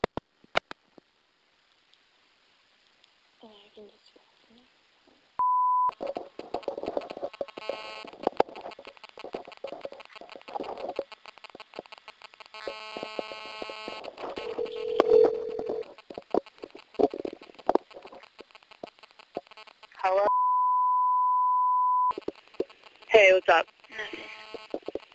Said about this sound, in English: Second phone call attempt at 4:26 p.m.